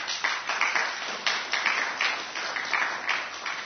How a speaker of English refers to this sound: Well, applause well earned. Thank you for that, for those people.